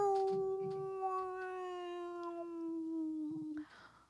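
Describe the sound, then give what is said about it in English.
A human voice imitates a whale call with one long, mournful, wavering hum that slowly slides lower for several seconds before cutting off into a brief noisy rustle. “Let me hear your whale.”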